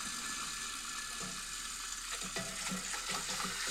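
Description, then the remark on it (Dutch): Water sloshes and splashes continuously, with soft clinks and clatters as dishes are washed in a sink. Steady, with no talking. “Ik denk dat ik een afwas aan het doen ben.”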